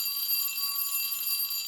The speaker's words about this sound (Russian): Ой, звонок на урок. Пошли.